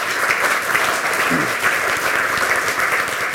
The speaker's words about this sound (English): and maybe a round of applause for letting me.